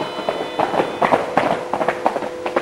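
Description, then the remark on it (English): Two mounted police horses trotting down a dim, rain-slicked street, their hooves striking the pavement in a quick, uneven run of sharp clip-clop beats at moderate loudness, with a faint steady high hum underneath. “Behind him, 2 mounted bobbies trot down the dim, rain-slipped street.”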